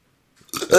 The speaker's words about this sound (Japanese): ちょっと俺静かにしてるんで、シャックリの音をリアルにこうちょっと録音しましょうよ、これ。